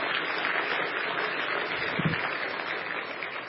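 Steady applause from a crowd, a dense continuous patter of many hands clapping at an even level for a few seconds, with no voices over it.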